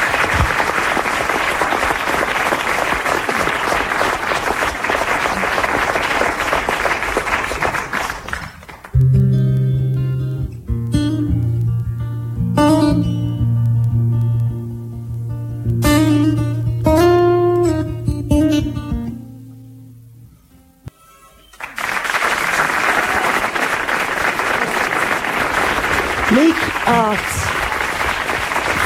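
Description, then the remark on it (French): A crowd applauds loudly for several seconds for a singer performing songs from his newly released album, a short stretch of guitar music with sustained notes follows, and then the dense clapping returns just as strongly. “Applaudissez-le, s'il vous plaît, encouragez un peu.”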